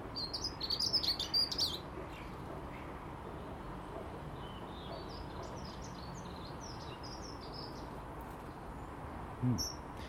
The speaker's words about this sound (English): Loads of bird activity this morning. The difference in daylight is the birds are now down at the feeders when I come out.